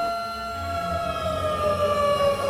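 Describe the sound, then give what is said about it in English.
A steady alarm siren wails continuously, its high tone sliding slowly downward while a low rumble churns underneath. No one speaks. “The alarms still work.”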